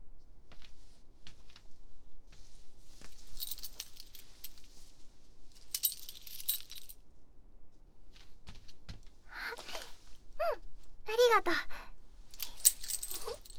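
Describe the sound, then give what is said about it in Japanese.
Keys jangle in several short metallic bursts as a spare key is handed over, with a soft voice speaking briefly between the clinks. “合鍵ゲット。”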